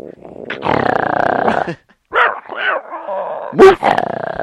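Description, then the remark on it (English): A person imitates the 'moof' bark of the Mac OS dogcow: a long, growly drawn-out call followed by several short, punchy bark-like bursts, spaced irregularly. “Clarice the dog cow, which always shows. It's Moof. Moof. Moof. Woof.”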